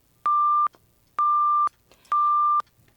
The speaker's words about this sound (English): When the transcript indicates that an expletive has been deleted, you will hear this electronic beep.